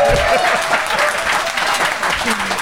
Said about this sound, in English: yeah, please applaud now. There we go.